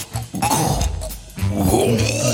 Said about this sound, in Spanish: Perdón, el gato, me parece que el gato está... Perdón. Ah. Una bola de pelo.